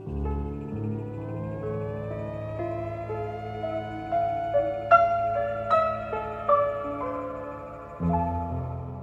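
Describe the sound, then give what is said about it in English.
In Blade Runner, in Deckard's apartment, a musician's layered synthesizer tones mimic the electronic beeping and chittering of appliances and slowly rise and wail like far-off police sirens over a steady droning chord, with a few brighter pulses near the middle and no voices. “Here in Deckard's apartment, underneath the piano part, … synthesizer mimics both the electronic beeping and chittering of appliances that might be in the room, as well as perhaps distant police sirens.”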